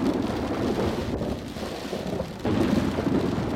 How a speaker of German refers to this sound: Eines Abends zog ein furchtbares Wetter auf. Es blitzte und donnerte, der Regen stürzte herab und es war ganz entsetzlich.